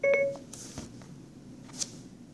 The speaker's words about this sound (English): And to initiate Siri on one of the devices, you press and hold the home button, and you'll hear the beep come up.